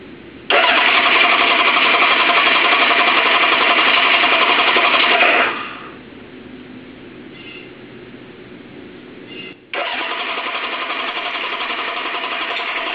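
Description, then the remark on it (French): A small scooter engine cranks and whirs in two loud, sustained bursts separated by a quieter sputtering pause, straining to catch but failing to start in the cold. “Voilà, avec ce froid, il démarre pas.”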